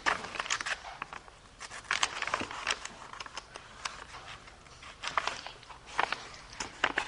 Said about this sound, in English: I have trouble turning the pages of these.